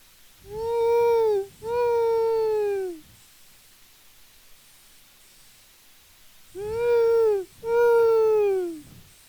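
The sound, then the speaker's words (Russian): An owl calls close by: two pairs of loud, drawn-out wailing hoots, each bending downward in pitch, with a quiet pause between the pairs and no talking. “Это сова, ну, филина можно подальше, а сова, она где-то близко.”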